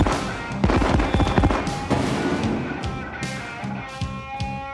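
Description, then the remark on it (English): A rapid series of firework rocket bursts booms and crackles high in the air, loud, with sharp bangs every half second or so over a continuous sizzling rumble. “First rocket bursts high in the air, spelling out a warning that no one under 18 should look at the next rocket, which explodes into a close-up of throbbing genitalia.”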